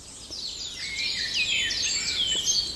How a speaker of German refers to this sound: Da war er eben, der Baumläufer, auch sehr zart, schrill hoch.